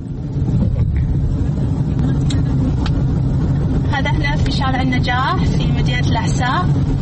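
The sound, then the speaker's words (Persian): A car driven by a Saudi woman taking her sister to work moves steadily along Najah Street in Saudi Arabia, its low engine and road rumble continuous and fairly loud, while a voice speaks over the noise in the second half. “من خوب ماشین میرانم و انشاءالله به هیچ کس خطر ایجاد نمی کنم.”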